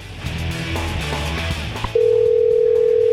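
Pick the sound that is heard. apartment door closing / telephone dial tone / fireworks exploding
telephone dial tone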